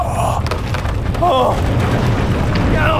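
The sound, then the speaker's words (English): A heavy, continuous rockfall rumble rolls on for three seconds, deep and loud, with crackling, grinding debris layered over the steady low roar of a collapsing mountainside as its weight collapses a tunnel opening, blocking it. “Finally, it came loose as the weight of the mountain collapsed the opening, blocking it.”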